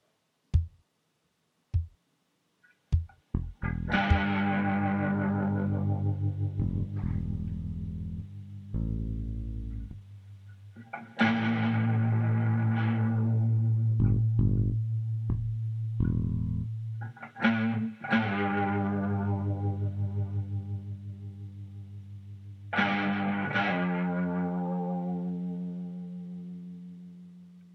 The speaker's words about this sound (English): MiniSynth is it simulates an old school synthesizer. I'm not a keyboard player, but I definitely enjoy using it. It sounds really cool.